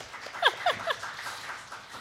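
Light audience applause, a soft steady patter of clapping with a few brief high whoops rising over it early on, then thinning out.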